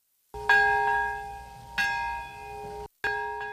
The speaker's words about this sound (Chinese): 在原子弹70年前爆炸的那一刻，长崎和平公园响起钟声。